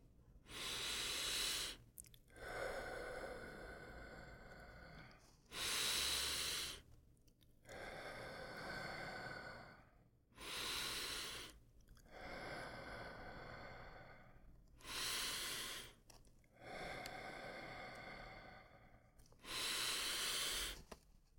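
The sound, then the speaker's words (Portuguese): Slow, deep breathing during a chakra meditation: long airy inhales and exhales alternate in a steady rhythm, about four full breath cycles, with no talking. “Procure sentir a sensação de subida da energia até o chakra coronário. Novamente, respirando.”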